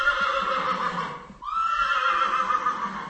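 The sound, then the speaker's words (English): A young horse in a stable for young horses in training whinnies loudly, a shrill harmonic call that breaks off briefly midway and then resumes, with no talking. “For example, this stable we are here just now, it's for young horses in training.”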